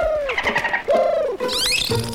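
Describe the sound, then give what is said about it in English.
Bottlenose dolphin calls: a run of squeaky, warbling whistles that arch up and down in pitch, ending with a quick rising sweep, fairly loud with no talking. “Speaking of experimenting, is that Reggie backstage trying to communicate with a bottlenose dolphin?”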